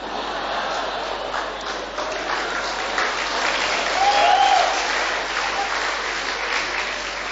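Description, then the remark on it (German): Sustained audience applause, a dense, steady wash of many hands clapping at once, holding at a fairly even level throughout with no voices standing out. “Ich weiß nicht, warum ihr jetzt klatscht, das ist doch überhaupt keine Leistung.”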